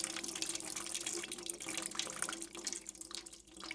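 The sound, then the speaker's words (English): Water of the Guadalquivir River in Sevilla flows and splashes steadily, a continuous bright rushing with small gurgling bursts. No voices are heard. “This is the Guadalquivir River.”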